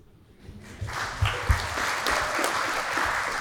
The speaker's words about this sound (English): That was the whole chapter, so we can just clap it up again for that.